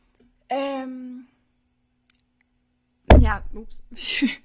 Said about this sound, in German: Voll gegens Mikro geknallt.